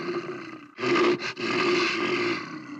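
A bear roars loudly, a deep, rumbling roar that breaks briefly, then continues in a long sustained growl with no voices.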